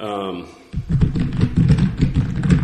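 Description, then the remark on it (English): A short burst of voice gives way to a marker scraping and tapping across a board in quick, uneven strokes as a quick map is drawn on the board, fairly loud, with soft thuds mixed in. “I'm just going to try to put a quick map here on the board.”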